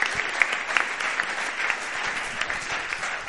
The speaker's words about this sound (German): Ja, da kann man schon mal Applaus geben, genau.